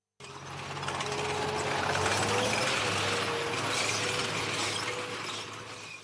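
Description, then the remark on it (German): Continuous metallic clanking and rattling of tank tracks over a deep, droning engine rumble, with faint squealing tones, steady and loud without any voices, as tank columns roll into Prague around midnight on 20 August 1968. “Zunächst war es Fluglärm, Dann folgten das Scheppern und Klirren von Panzerketten.”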